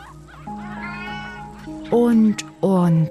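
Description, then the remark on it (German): A cat meows twice in quick succession, two loud, drawn-out cries near the end, preceded by softer, steady tonal sounds in the background. “Katzen mit dem Schwanz eines Pfaus.”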